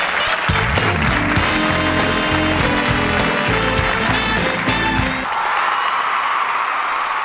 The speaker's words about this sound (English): How's that for applause?